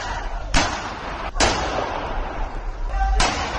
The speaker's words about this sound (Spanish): Como si fuera una película del oeste, se sucedieron tiros y puñaladas entre los miembros de varias bandas latinas que no precisaron la intervención de los servicios de emergencia.